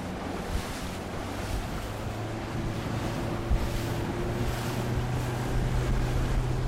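A small Zodiac inflatable motorboat drones steadily with a low engine hum as it motors over waves in the Riou archipelago, water rushing and slapping against the hull while wind buffets the microphone throughout, with no voices.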